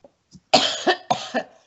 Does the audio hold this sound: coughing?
yes